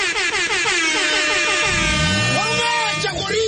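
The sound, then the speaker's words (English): A loud, sustained air horn blast with a brassy, harmonic tone, holding steady for a couple of seconds before a lower rumbling pitch sweep joins in near the end. “All right, beautiful words, another air horn there of course.”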